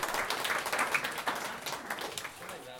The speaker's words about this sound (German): Ja, das Publikum macht mit. Sehr schön. Dankeschön, genau, kleiner Applaus.